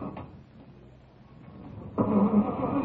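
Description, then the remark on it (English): A car engine grinds and cranks without catching, a low mechanical rumble that swells suddenly louder partway through and keeps churning. No voices are heard. “Come on, car. Could your car be out of gas?”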